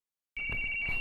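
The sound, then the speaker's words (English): A radio receiver emits data transmission tones as it receives data, ones and zeros, from a transmitter: a steady, high-pitched electronic whine over rough static hiss, cutting in abruptly after a moment of silence and holding at an even level. “That noise is coming from the receiver, and the receiver is receiving data from the transmitter.”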